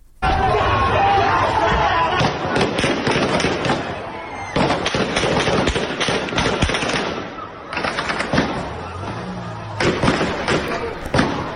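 Rapid, dense bursts of gunfire crack almost continuously through a loud outdoor scene during street clashes with protesters in Paveh, a Kurdish city in Iran, pausing only briefly, with people shouting and clamoring underneath.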